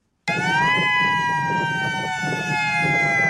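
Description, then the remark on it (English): Hawaii's attack warning siren, tested for the first time since the Cold War as part of the state's monthly alert test, starts abruptly and holds a loud, steady wailing tone, its pitch sliding slightly downward, with a low rumbling background beneath it. “Starting in December, Hawaii will be testing its attack warning siren for the first time since the Cold War in the 1980s.”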